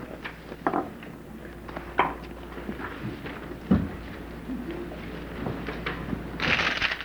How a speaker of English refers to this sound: So what I'd like to do right now is pass out some paper, and would each of you just take a sheet?